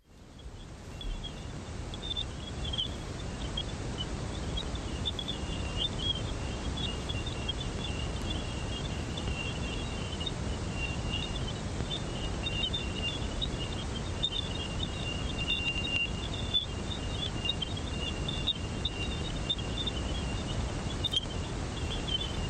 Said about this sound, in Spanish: Pero antes, en enero de 2001, captó estos silbidos en la atmósfera de Júpiter. Parece como un canto de pájaro, pero no, son radioondas, ondas de radio en un espectro que ya te digo que en el espacio no es audible, pero que se escucharían así.